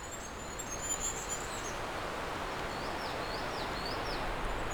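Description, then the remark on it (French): Light bird chirps and short whistled calls, fairly faint, sounding over a steady outdoor hiss like rushing water. No one speaks. “La légèreté des oiseaux.”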